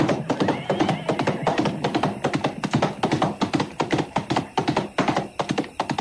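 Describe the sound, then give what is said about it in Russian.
Rapid hoofbeats of a horse galloping past riders as they leave a village pound in a steady, driving rhythm for several seconds, loud and sharp with no voices over them. “Когда мы уже выезжали из села, то слышали за спиной топот.”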